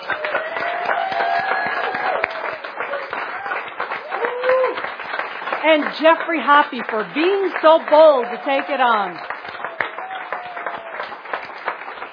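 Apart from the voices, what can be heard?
audience applause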